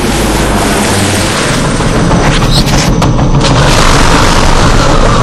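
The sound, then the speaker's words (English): A loud, sustained explosive roar fills the whole clip as a rocket strikes the spinning rotor of a helicopter, a dense rumbling blast mixed with the churn of the helicopter, overwhelming, with sharp crackling bursts partway through. “The flame-spitting tube shot right into the spinning rotor of the chopper.”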